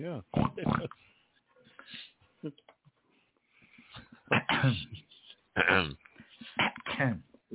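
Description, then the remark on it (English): A string of loud pig-like oinks and snorts in irregular bursts, apparently a human voice imitating a pig, with short quiet gaps between the grunts. “Bloops and pigs. That's all we do.”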